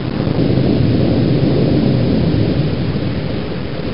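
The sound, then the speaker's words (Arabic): A baking soda, food coloring and vinegar volcano fizzing in a cup as the reaction produces carbon dioxide, a loud, steady, rushing hiss of bubbling foam that carries on without a break for the whole clip, with no voices. “واو، إنه يفور كالبركان، كيف حدث هذا؟”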